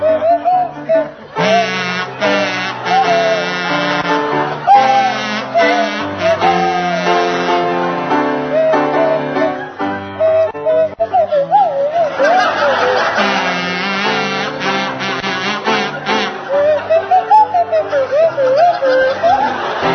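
A kazoo and a swanee whistle play a tune together for about twenty seconds, the kazoo buzzing loud and close while the whistle slides up and down in wobbly glides.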